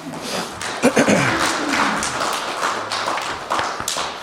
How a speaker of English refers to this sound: So I want him to come up, and we're going to pray as he comes up and speaks. I'll give him a round of applause.